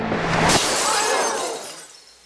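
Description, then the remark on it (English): A sudden loud crash of a glass pane on a stage shattering as a gun is fired through it during a magic trick, followed by a bright scatter of falling shards that tinkle and fade away over about two seconds. “In between the two, a pane of glass. The gun is fired directly at the magician. The glass explodes.”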